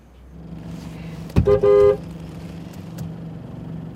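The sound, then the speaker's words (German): A Honda idles and rolls through dense New York rush-hour traffic with a steady engine rumble, and a loud, brief horn honk blares about midway through. “Michelle manövriert ihren Honda durch die Rush Hour von New York.”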